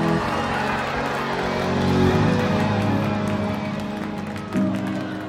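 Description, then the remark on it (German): The parents of 12 boys claps and cheer continuously at a park ranger station in Thailand, after news that rescue divers found the boys and their football coach alive in a flooded cave. A steady wash of applause and voices at a fairly loud level, with a brief swell just before the end. “Auf der anderen Seite des Lagers, in der Station der Parkaufsicht, klatschen und jubeln die Eltern der Jungen.”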